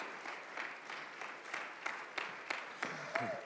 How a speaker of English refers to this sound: Give a round applause as he comes to speak into our life.